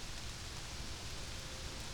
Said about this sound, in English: Okay, it's really starting to rain.